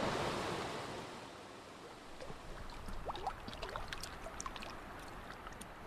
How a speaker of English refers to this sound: Here I am now at Ennis Creek. Below the trail, a series of rapids and pools. So I'm looking at the second footbridge and the white water rushing down.